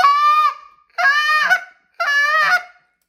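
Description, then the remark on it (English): Three loud goose-call honks, deep and hollow like a gander, each about half a second long and evenly spaced about a second apart, with no talking. “Now, if you watch what I was doing and listen to what I was doing, you know, I was getting that deep hollow goose, so they're coming in that gander.”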